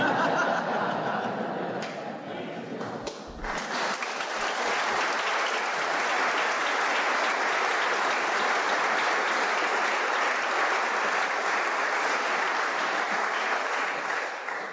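A church audience breaks into sustained applause after a homily, a dense, steady wash of clapping lasting the whole stretch, with a little laughter and murmuring mixed in at the start.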